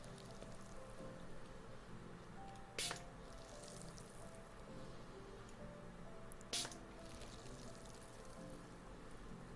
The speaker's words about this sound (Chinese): 这就是那个雨滴落在青青草地的声音啊